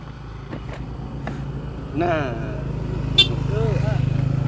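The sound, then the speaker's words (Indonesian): A car rumbles, its engine drone building toward the end, with a brief horn honk and scattered clicks. A voice talks over it. “Nah, yo, ada mobil mau lewat ya?”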